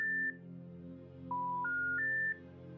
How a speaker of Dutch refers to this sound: Van een aantal hebben een telefoonnummer. Op goed geluk doet ze er een paar in.